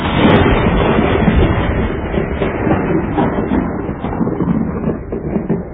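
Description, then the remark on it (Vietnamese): A loud, rolling rumble of thunder after a lightning flash, a sustained deep roar that churns on for several seconds, with no voices present. “Bỗng, một ánh chớp lóe lên trên nền trời.”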